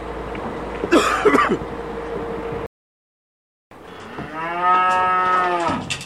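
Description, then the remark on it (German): Cattle moo at a free-stall barn in Künden, Aargau, Switzerland, early in the morning as a farmer prepares four cattle for their last trip and an 18-ton truck backs up to the barn: a short rough call, then after a brief silence a long, loud, harmonic moo, over a low steady background hum. “Schon gar nicht, wenn der stämmige Bauer in aller Herrgottsfrühe 4 seiner Rinder für ihre letzte Fahrt vorbereitet.”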